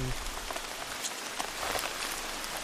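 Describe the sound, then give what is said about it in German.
Steady rain patters down continuously in the dark, a dense hiss of drops striking a hard surface, with scattered brighter taps standing out from the wash of sound. “Trotz Dunkelheit und Regen will ich einfach nur raus aus diesem Auto.”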